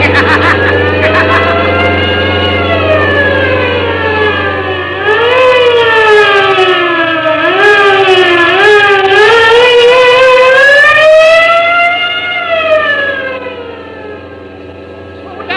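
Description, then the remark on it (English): Loud police car sirens wail continuously during a chase through downtown traffic, their pitch sweeping up and down in overlapping cycles above a steady low engine rumble, with no one speaking. “Sounds like the police. Yes, it is.”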